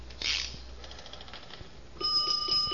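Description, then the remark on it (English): A brief mechanical clatter as the guard is lifted and the handle pulled, then the bell inside a fire alarm box bursts into continuous, rapid ringing that stays loud, with a bright metallic tone through the final second. “To send fire alarm, lift guard, then pull handle. Yeah, now a bell goes off in the box, but don't let it scare you.”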